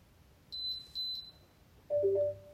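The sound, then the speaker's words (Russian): Two short high-pitched beeps from an Alice smart speaker, then a lower two-tone chirp from an electric kettle after it is told by voice command to heat to 80 degrees. Brief electronic tones over a quiet background, with no talking. “Вот, то есть и у колонки появился характерный звук, и у чайника.”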